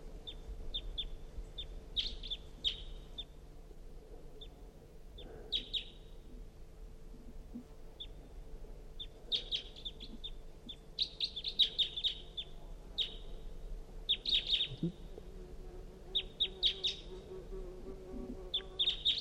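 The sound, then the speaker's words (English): A wild bird calls repeatedly with short, high-pitched chirps and twittering bursts, some in quick clusters, over a steady low hum. No one speaks. “Wild bird calling.”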